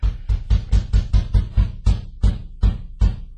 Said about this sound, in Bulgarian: Лепорело, иди да видиш кой чука на вратата.